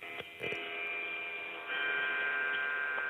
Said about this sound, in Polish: Pięknie coś dzwoni, to zegar? Tak. Taki piękny zegar? No, odmierza czas, w końcu środek nocy.